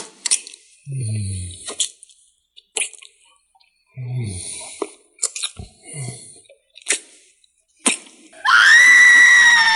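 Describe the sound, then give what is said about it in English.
A series of sharp slaps, clicks and low thuds, as a hysterical person is slapped to calm them, gives way to a sudden, loud, shrill hysterical scream that rises and holds until the end. “Now where's his screaming too?”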